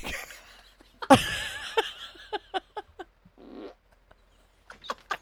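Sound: fart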